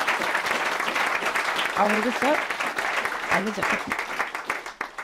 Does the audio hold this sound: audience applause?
yes